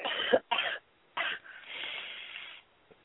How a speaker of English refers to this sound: Sister, take 3 deep breaths and cough. Okay.